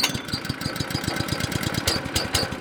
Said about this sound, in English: I'll fire the pump up for you. It's right around sunset on the tarmac at the Jet Center in Kalispell. Wyatt Frampton, a fire manager for the Montana Department of Natural Resources and Conservation, fires up a heated pressure washer.